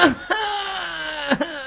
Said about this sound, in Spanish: Escuchan en la oscuridad un gemido. Se acercan, dan dos pasos y se repite el gemido.